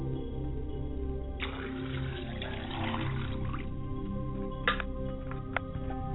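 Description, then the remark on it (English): Liquid is poured out as a libation toward the northeast, in a steady, soft trickle for a couple of seconds, followed by a few sharp drips or splashes over a low background hum. “I pour libations to northeast, which is Heteruti, at 3 a.m.”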